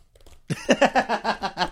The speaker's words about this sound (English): The sound of you and me tapping our keyboard so that we could Google something that the listeners cannot watch after you described it.